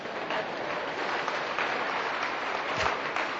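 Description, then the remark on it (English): Scattered audience applause, a thin crowd clapping at a steady level for a few seconds, with individual claps standing out in an uneven, crackly rhythm and no voices. “That was the most hurtful applause I've ever heard.”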